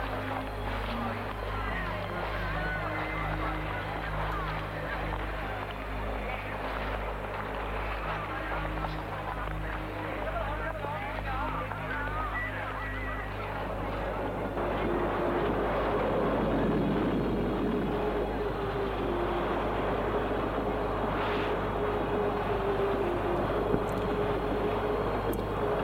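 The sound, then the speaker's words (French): A steam train slowly pulls away, a steady low mechanical rumble with broad hissing noise that shifts and grows slightly rougher about halfway through. “Le train part doucement.”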